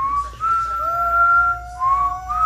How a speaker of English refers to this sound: Sounds like a dying dog and me whistling as it's dying.